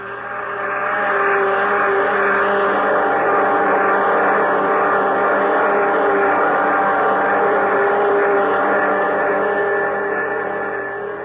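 A spaceship's jet dynamos, driven by the harnessed power of 1,000 suns, roar steadily, a loud, dense mechanical drone with layered humming tones that swells in over the first second and then holds unbroken, with no voices.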